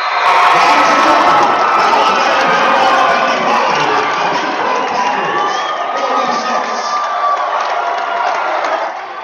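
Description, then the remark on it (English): A loud crowd cheers and shouts continuously at the end of a basketball game in Gladstone, Michigan, where the Dollar Bay Tamarack City Blue Bulls beat Pickford 55 to 46. High whoops and voices blend into a dense, steady roar that eases only slightly toward the end. “And that's the end of the ball game. Listen to the crowd.”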